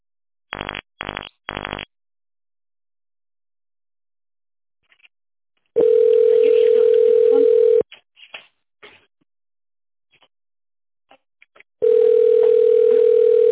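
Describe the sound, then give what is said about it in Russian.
A telephone rings with long, steady electronic tones, two extended buzzes separated by a quiet gap, preceded by three quick beeps and a few faint clicks. No one speaks. “Ну, возьми трубочку.”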